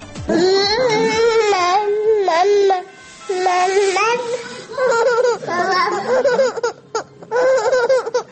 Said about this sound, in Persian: الانم صدای بچه شنیدید؟ بله، صاحب دوقلو شدم، یه دختر عزیز گلم داره میخند الان دنیا و صاحب یه پسر شدم